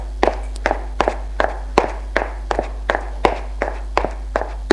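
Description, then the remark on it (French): Footsteps climbing stairs, a steady series of sharp, evenly spaced treads with a low constant hum underneath and no voices. “Il la suit, qui monte aux étages.”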